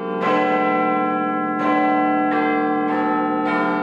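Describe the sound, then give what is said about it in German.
A large clock tower bell strikes the hour in a series of heavy, resonant strikes, each blooming and overlapping the long humming tail of the last, fairly loud and with no voices. “Und weil das ganz schön lange hin ist, spendiere ich euch einfach noch ein letztes Läuten.”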